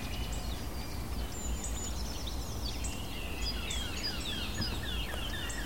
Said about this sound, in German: Hellen Töne der Mönchskassmücke.